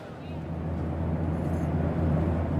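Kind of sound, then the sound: vehicle, airplane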